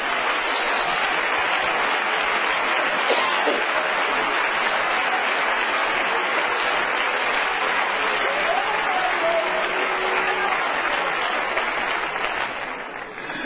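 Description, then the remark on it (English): An audience claps their hands to the Lord in worship, steadily for the whole stretch: a dense, sustained wash of hand claps from many people that stays loud throughout and only begins to thin slightly at the very end. “Oh, let's clap our hands to the Lord.”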